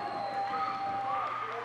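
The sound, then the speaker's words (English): A volleyball crowd at a match between the Penguins and the Otters cheers steadily after a play, with high sustained yells and shouts rising over a dense, even roar for under two seconds. “The crowd is pumped by that play.”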